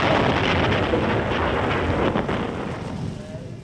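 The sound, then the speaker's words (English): A loud explosion: a dense, roaring rumble that fills the whole clip and only slightly eases toward the end, with no voices heard. “the explosion blew Rommel's small black box up in the air”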